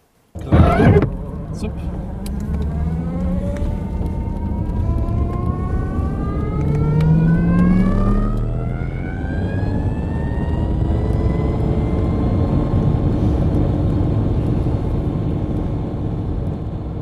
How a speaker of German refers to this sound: Wenn das Motorrad anfährt und seine Stützräder einfährt, hört sich dies so an.